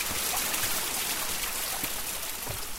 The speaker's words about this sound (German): Wasserfälle stürzen rauschend in die Tiefe.